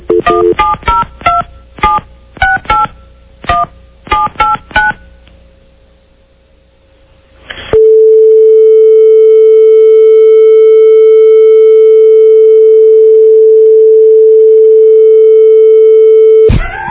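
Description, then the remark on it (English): A rapid series of telephone keypad dialing tones in short clustered bursts as a cell phone number is dialed, then a brief pause before a loud, steady electronic phone tone drones unbroken for about nine seconds. “Did I dial the right number?”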